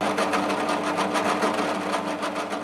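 A power drill runs steadily for a few seconds in a guitar-making workshop, a loud buzzing motor whine with a fast, regular chattering pulse as it bites into wood, and no voices.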